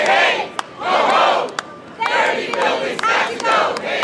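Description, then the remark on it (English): More than 100 people on the steps of New York City Hall celebrate the passage of a climate bill, cheering and shouting in loud, swelling bursts that rise and fall about once a second, with sharp whoops and claps cutting through the sustained roar. “On the steps of New York City Hall, more than 100 people celebrated the passage of a landmark climate bill last week.”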